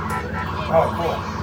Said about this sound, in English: The vehicle's horn will also change the siren tone while level 3 is active. I don't know if you have cards to do that. If you hit the horn, it'll change the siren sound also. Just your horn.